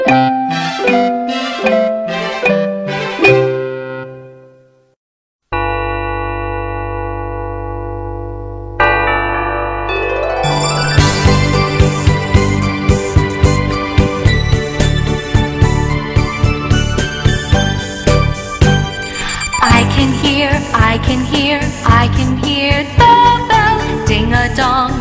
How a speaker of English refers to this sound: Ding-a-dong, ding-dong. I can hear the bell. Ding-a-dong, ding-a-dong. I can hear the bell.